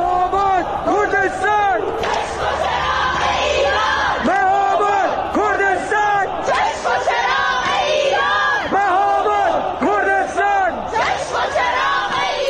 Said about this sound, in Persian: اینجا هم شهرک چیتگر تهرانه که اینجوری شعار میدن.